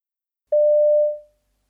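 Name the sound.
telephone ringing tone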